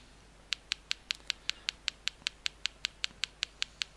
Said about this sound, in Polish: Urządzenie wydaje takie pstrykanie, takie tyk, tyk, tyk, tyk, tyk, tyk, tyk, szukając, identyfikując obiekt i informuje nas, że znalazło nową etykietę.